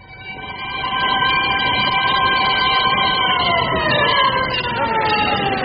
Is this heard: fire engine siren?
yes